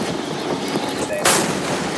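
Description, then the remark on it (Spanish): Heavy disabling gunfire at a ship being stopped and boarded, from a US Central Command video, over a rough, noisy background, with one sharp, loud burst of shots about halfway through that booms out and lingers. No clear talking. “vas a escuchar los avisos para que se detenga el barco y los disparos.”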